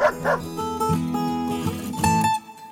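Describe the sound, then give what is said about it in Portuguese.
A small dog yips and barks a few times in quick, high-pitched bursts, fairly loud, with whiny tones between the barks and no one talking. “O netinho, então, chamou o cachorrinho.”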